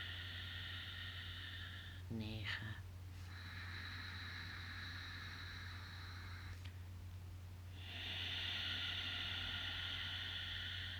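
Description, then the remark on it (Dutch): Long, steady breathy rushes of Ujjayi breathing during a guided count of ten breaths, a soft ocean-like hiss through the throat on the exhale, with a brief snort-like catch partway through and a louder exhale toward the end. No talking. “Uit aan het ruisende geluid.”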